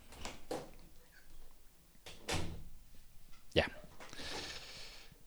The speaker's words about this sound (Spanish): Perdón que ahí está mi gata tocando la puerta para variar.